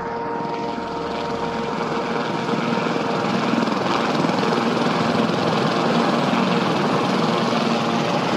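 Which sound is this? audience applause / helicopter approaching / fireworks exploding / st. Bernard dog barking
helicopter approaching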